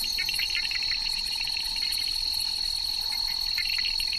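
night insects chirping

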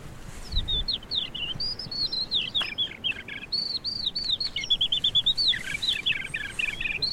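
eurasian skylark singing

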